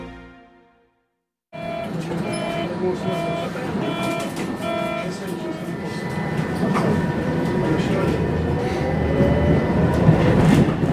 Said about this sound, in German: Mit der Straßenbahnlinie M6 fahre ich 14 Stationen nach Osten, an den Berliner Rand. Die Reise dauert 21 Minuten.